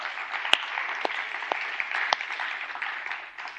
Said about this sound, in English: In the first service, I said, clap loud, guys. It makes them feel uncomfortable, which is what I want.